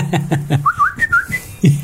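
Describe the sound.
A person whistles a short bird-like call as a signal for others to follow: a series of quick rising and falling chirps around a mid-high pitch, fairly loud, with a few soft vocal sounds before and after.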